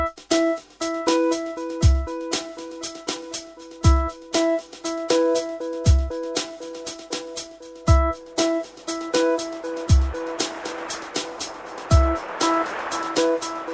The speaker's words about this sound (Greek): Όμως με πήρε πάρα πολύ η λογοδιάρειά μου να ακούσουμε ένα από τα πιο πετυχημένα τραγούδια που έχουν μέσα τη λέξη θάλασσα των τελευταίων 20-25 ετών.